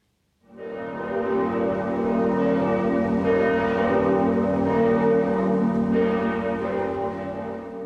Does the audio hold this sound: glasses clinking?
no